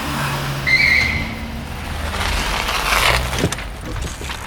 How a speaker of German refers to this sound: Hey, seht mal, da blendet ein Auto auf und kommt auf uns zu.